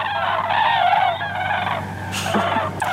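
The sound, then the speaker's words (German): A flock of common cranes calls in flight, many rolling, trumpeting voices overlapping into a steady, dense chorus that carries on without pause. “Das sind natürlich Kraniche und ja, weil die so laut sind, sind sie natürlich auch kaum zu verpassen.”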